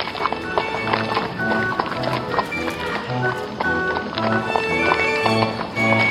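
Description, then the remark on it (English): Horse hooves clip-clop in a steady, repeating rhythm against a busy, dense background of crowd noise and tonal sounds, moderately loud throughout. “This was predominantly livestock-based, and the Sheffield Telegraph focuses much on the price of horses and cattle.”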